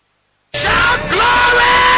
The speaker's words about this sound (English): You are yelling.